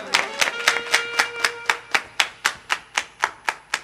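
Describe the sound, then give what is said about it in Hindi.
An audience claps together in a steady, even rhythm, roughly fourteen sharp, loud claps in under four seconds, over a faint sustained tonal hum, with no talking. “जोर से ताली बजावे।”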